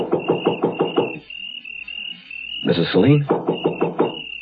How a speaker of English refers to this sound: It was so dark I couldn't see where the doorbell was, so I knocked.